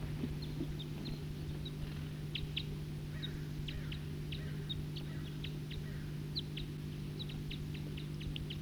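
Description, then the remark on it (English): A small flock of about five type 2 birds, flying around, gives brief, high chip calls, scattered irregularly throughout, some close together in quick pairs, over a constant low engine-like hum. No one speaks. “Flying around now with some other birds, about 5 birds.”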